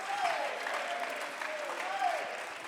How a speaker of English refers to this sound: Clap your hands, lift your voice, magnify him. Levanten su voz, aplauden sus manos.